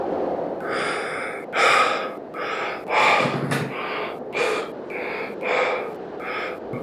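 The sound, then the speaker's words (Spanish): Heavy, rapid panting from the effort of climbing up to a ceiling beam: a steady run of about nine breathy gasps, each one a loud, rough huff with a slightly raspy edge, and no talking. “Jadeó por el esfuerzo y se adentró en el techo reptando hacia arriba, penetrando en la oscuridad.”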